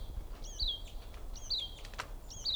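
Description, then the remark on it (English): Three short, high-pitched bird chirps repeat at a steady rhythm, each a quick down-sweeping whistle, faint over a low background rumble with a brief click near the end. “There's also one more bird I see here. Oh, here's the female.”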